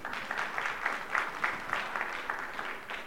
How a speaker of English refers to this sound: Somebody give her a hand clap again.